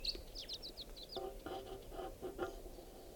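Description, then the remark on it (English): A lone wild bird calls in flight: a quick run of high, thin chirps, then several lower, harsher repeated notes in an uneven rhythm, moderately loud over a soft steady background hiss. “Pointing out the wild bird.”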